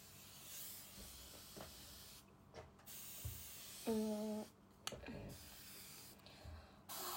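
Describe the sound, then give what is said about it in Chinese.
A moisturizing facial mist bottle sprays in several short hissing bursts, with soft handling clicks between them and a brief low hum in the middle. “再，对，喷点保湿喷雾。”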